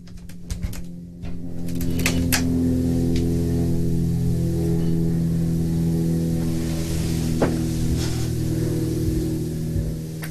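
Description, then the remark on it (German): A helicopter, somewhat far away, drones steadily, its low, layered engine and rotor hum holding for about ten seconds after a few brief clicks and rustles at the start. No one speaks. “Ich glaube, ich höre Hand einen Hubschrauber.”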